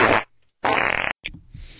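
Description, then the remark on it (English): Two loud, blatting fart sound effects in quick succession, the second longer and buzzier, followed by a short squeak and a fading airy tail. “Welcome to Fart Stories.”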